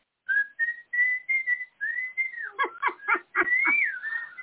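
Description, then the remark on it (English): People whistle a simple tune, a run of short, bright notes followed by longer sliding ones, with bursts of giggling breaking through the whistling toward the end. “We'll just, everybody whistle.”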